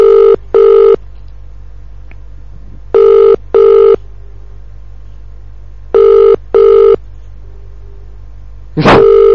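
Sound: telephone ringing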